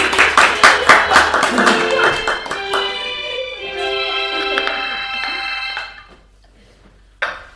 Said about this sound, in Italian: Applauso.